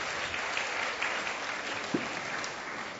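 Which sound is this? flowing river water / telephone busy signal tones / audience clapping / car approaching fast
audience clapping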